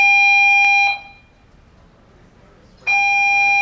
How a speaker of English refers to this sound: Is that a fire alarm? Someone hacked the fire alarm.